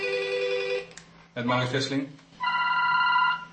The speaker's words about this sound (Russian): Теперь у активистов движения против компьютеров от неожиданной популярности разрывается телефон